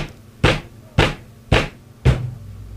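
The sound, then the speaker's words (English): Four sharp, heavy hammer blows drive in a metal bolt that is being held steady, landing at a steady pace about half a second apart, each a loud bright crack that fades quickly, with no voices. “can you hold the bolt steady while I hammer it in?”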